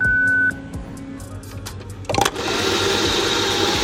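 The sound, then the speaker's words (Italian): A coffee machine starts with a short electronic beep, then a low mechanical whir before a loud surge settles into a steady buzzing hiss of brewing. “Cos'è? Macchina del caffè. Esatto.”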